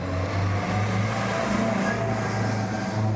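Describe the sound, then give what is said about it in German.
A steady motor hum of cars passing through a small village at the entrance of the Val d'Hérens, most driving on further up the valley; continuous low engine drone and tyre rumble fill the scene; no one speaks. “Kaum einer hält hier an, die meisten Autos fahren weiter nach Evolin, weiter hinten im Tal.”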